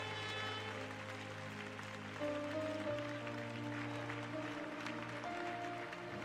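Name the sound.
audience applauding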